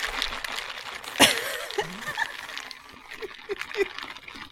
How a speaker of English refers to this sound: I'm trying to just mix in my little, like, my little caffeine packet in here in my little water bottle.